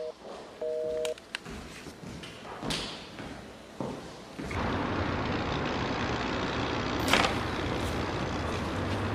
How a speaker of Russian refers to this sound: Что-то я своим с городского дозвониться не могу. Восьмерка все время занята.